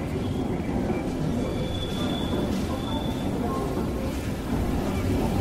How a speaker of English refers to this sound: Tango Sierra 523, ready to depart. Over. 523, clear to depart. 523, acknowledged. This train is ready to depart. Closing door. Please stand clear of the doors.